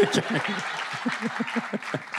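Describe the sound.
An audience breaks into steady, dense applause lasting about two seconds, many hands clapping at once, with some voices and laughter mixed underneath.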